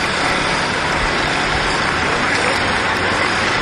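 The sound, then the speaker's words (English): A city bus rumbles past without stopping amid steady, loud roadway traffic, its engine drone and hissing road noise filling the scene without a break. “Okay, that bus didn't even stop.”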